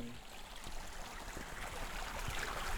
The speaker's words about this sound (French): Après le tumulte de la cascade, toujours à Chmila, dans le parc national du paradis slovaque.